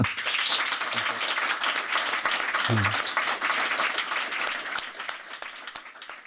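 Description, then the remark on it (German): A live-event audience applauds a guest steadily for several seconds, dense overlapping claps, with a brief voice or cheer rising partway through before the clapping gradually thins. “Und bevor wir uns jetzt die Füße vertreten, bitte ich um einen großen Applaus für meinen Gast”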